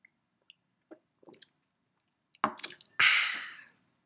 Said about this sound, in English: About to take another sip of the Bronco.